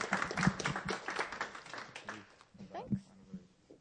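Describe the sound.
A crowd applauding with steady, dense clapping that holds for several seconds, with some voices and cheers mixed into the clapping. The applause welcomes a woman up to tell her story.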